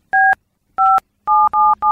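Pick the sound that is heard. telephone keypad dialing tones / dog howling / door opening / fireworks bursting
telephone keypad dialing tones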